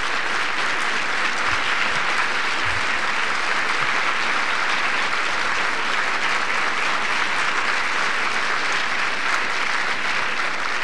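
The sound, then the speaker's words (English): Sustained applause from a large audience, a dense, even wash of clapping hands that holds steady at full volume for about eleven seconds with no voices standing out. “So let them stand and get a round of applause.”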